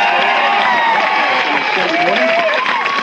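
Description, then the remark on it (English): A large crowd at a live KFI AM 640 radio broadcast at Stimuland in Redondo Beach roars and cheers in a steady, dense wash of overlapping voices, with raised shouts rising above the din. It stays loud and constant throughout, with no single speaker standing out. “The crowd is ever swelling, and the crowd continues to move in from my left to my right, completely passing me by.”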